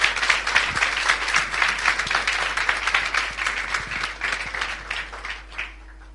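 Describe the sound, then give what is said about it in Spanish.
An audience at an award ceremony applauds the winner of the 2009 Pro Internacional first prize, a dense wash of many hands clapping at once, loud, then thinning out and fading near the end. “Le voy a pedir a la ganadora, adelante por favor, del primer premio del año 2009 Pro Internacional, un aplauso para ella, que nos va a acompañar a la entrega del primer premio.”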